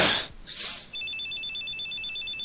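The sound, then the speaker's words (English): A telephone rings with a rapid warbling electronic trill, two alternating high tones repeating steadily for over a second, following a couple of brief breathy noise bursts. No one speaks. “somebody's phone just went off.”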